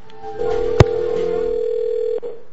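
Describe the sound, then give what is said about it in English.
A steady telephone dial tone hums for about two seconds as a prank call is placed from Miami. A sharp click breaks it near the start and another click ends it, with no one speaking. “Now let's hope the phone lines don't jazz up again here on us.”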